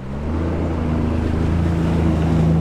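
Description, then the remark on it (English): A jet ski engine drones steadily, a low, buzzing motor hum layered over a wash of rushing water noise, holding loud and swelling slightly toward the end. It moves through brown, debris-filled floodwater along a suburban road past trees, light posts and street signs, toward a flooded home. No one speaks. “As the jet ski pulls closer, he points to the 8-foot stone columns that typically welcome a car.”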